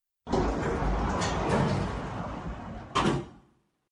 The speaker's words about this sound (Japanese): それでは、どうぞお乗りください。扉が閉まります。